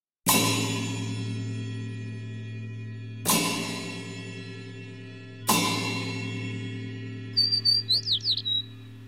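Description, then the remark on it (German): Three heavy resonant strikes ring out and slowly fade, then near the end a house sparrow, a 14 to 16 cm bird with grey-brown plumage, gives a quick burst of about six bright, rapid chirps over the lingering hum. “Der Haussperling oder Spatz ist ein 14 bis 16 cm großer Vogel mit grau-braunem Gefieder.”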